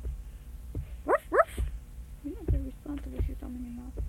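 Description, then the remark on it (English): A person's voice imitates a dog barking with two quick, sharp woofs in close succession, followed by a stretch of talking at a moderate level. “The dog goes woof, woof.”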